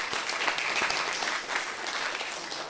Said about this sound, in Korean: 여러분 기도해 주셔서 너무나도 감사합니다. 우리 박수로 한번 환영하도록 하겠습니다.